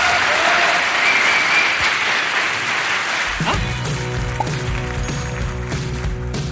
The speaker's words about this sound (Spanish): Esto fue, señoras y señores, Emprende, Estafadores. Un fuerte aplauso para ustedes.